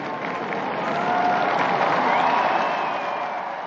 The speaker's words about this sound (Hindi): तब उन्होंने ताली बजाकर नए धन्य को सम्मानित किया।